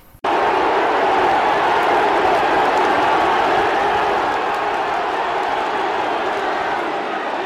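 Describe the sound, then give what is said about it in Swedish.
A large crowd roars and cheers continuously at a race, a dense, loud wall of voices that starts abruptly and holds steady, easing slightly toward the end. “Jag tänkte vi skulle, det finns ett klipp, jag hittade ett klipp, eller ett lopp, en loppfilm där ingen referent är med, utan man hör enbart publiken.”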